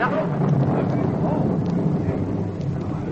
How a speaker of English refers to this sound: Rain! Oh, thank heaven.